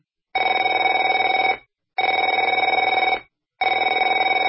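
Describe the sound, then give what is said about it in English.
A telephone rings in three long, steady bursts separated by short silences, the bright electronic trill loud and alone with no voices. “Afraid to answer it?”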